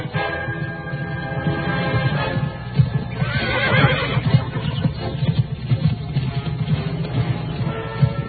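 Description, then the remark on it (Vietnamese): A horse whinnies loudly while hooves clop in a steady rhythm, growing nearer, with a busy low rumble of movement underneath throughout; a robber is riding the horse toward a man on a road. “Giữa đường đi, bất chợt nhìn thấy tên ăn cướp cưỡi ngựa đang tiến tới.”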